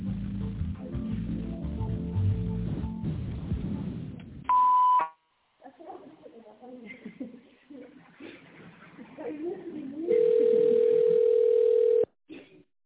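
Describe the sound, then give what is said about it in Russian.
A recorded Russian-language automated phone menu voice speaks over soft background music, then a brief high telephone beep sounds, the signal to dial an extension number. More talking follows, ending in a longer, steady, lower-pitched phone tone held for about two seconds. “Если вы знаете добавочный номер абонента, наберите его после звукового сигнала или дождитесь ответа секретаря.”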